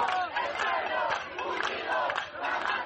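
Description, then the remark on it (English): A large crowd of protesters at a rally chanting "the people, united, will never be defeated", many voices shouting in unison at a steady, loud level with rhythmic swells and no break for the whole stretch. “Protesters chanted around them, saying the people, united, will never be defeated.”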